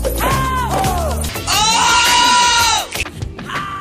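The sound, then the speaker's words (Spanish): Several loud, high-pitched vocal shrieks in a singer's pop-singer style: two short yelps, then a long sustained cry that bends in pitch before cutting off, followed by softer sounds. “los gritos”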